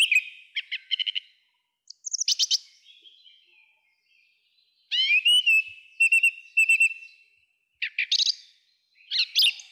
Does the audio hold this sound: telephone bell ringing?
no